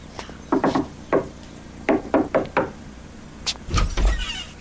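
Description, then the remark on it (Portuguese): A few sharp wooden knocks and bumps at a door, then a heavy, booming door slam near the end. The sounds are fairly loud, with no one talking. “Mas agora vou bater a porta.”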